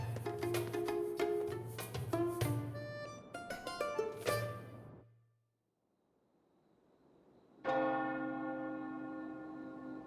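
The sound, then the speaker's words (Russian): Church bells peal in a busy cluster of overlapping strikes, fade into a brief hush, then one loud strike rings out with a long, shimmering decay. No voices. “В колокол звонят.”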